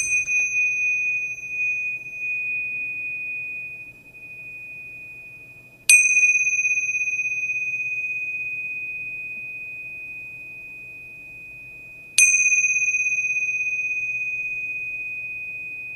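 Tibetan cymbals struck three times at slow, even intervals to invite a moment of mindfulness, each strike giving a bright, high, pure ringing tone that sustains and fades slowly into the next. No voices.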